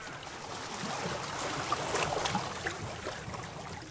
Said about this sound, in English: I'm on the lake. The lake? I take a boat out and drift.